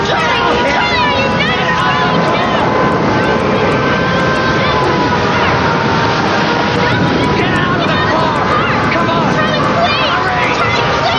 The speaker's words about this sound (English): Funnel cloud. Wind.